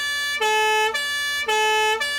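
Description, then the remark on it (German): A police siren wails in a steady two-tone pattern, alternating high and low pitches about every half second, loud and harmonically rich, with a low engine hum underneath and no talking. “Die Polizeisirene, leider kein Treffer.”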